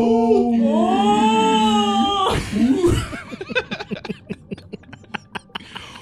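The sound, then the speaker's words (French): A voice makes long, rising and wavering moans imitating a whale call, then a brief noisy burst gives way to a run of rhythmic, laughter-like pulses. “L'intro baleine.”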